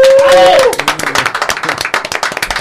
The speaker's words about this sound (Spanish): ¡Un fuerte aplauso!